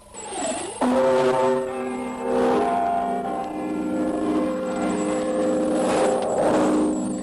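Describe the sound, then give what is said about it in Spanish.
The chimes of Big Ben in London ring out alone, marking a quarter past midnight Greenwich time: loud, deep bell strokes struck a few seconds apart, each leaving a rich, humming tone that hangs and overlaps with the next. “Y comenzamos con las campanadas del Big Ben que indican medianoche 15, hora de Greenwich.”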